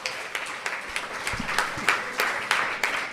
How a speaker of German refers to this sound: Ja, also ich habe einen Bügelbrettüberzieher bekommen zu Weihnachten. Also Applaus.